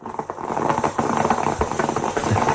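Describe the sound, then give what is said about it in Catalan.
An old-style stovetop coffee maker brewing on a weekend in L'Hospitalet de Llobregat, with a steady bubbling, sputtering gurgle and irregular little pops and hisses running throughout, moderately loud and with no voices. “Una cafetera com les d'abans.”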